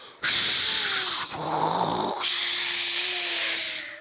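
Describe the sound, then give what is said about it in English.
A crowd of people imitate wind with loud, sustained breathy whooshing and hissing, rising in two long surges with a brief dip between, some voices adding a low hum underneath. “So everybody make as loud as they can, everybody out there too, a sound of wind.”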